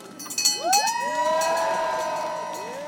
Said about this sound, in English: After Team Alula tied up, fans demanded that they ring the traditional finish line bell. Ring the bell! Come on, guys!